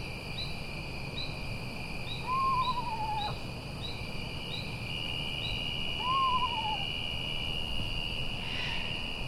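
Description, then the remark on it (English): Two quavering, descending whinnies from a screech owl in the Hudson Valley, spaced a few seconds apart, over steady insect trilling and a low, rumbling background hum. “The screech owl's eerie call might make you think there's ghosts in the woods.”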